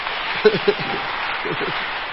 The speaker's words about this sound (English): Let's clap our hands for this sister now.